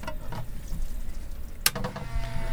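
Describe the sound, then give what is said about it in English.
A Monks record cleaning machine runs steadily with a low hum and whirring noise, spraying water, which hisses and splashes throughout, plus one sharp spritz or clunk partway through. It has a cleaning brush and a suction arm. No voices. “This tends to spray water about a bit.”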